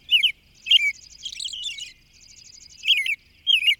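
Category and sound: bird, robin song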